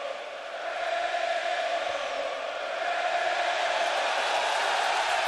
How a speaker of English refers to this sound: 40,000 Pirates fans chanting Johnny Cueto's name. And it got to him to the point where he actually dropped the baseball on the ground on the mound because he was so shaken from this crowd of people chanting Cueto, Cueto.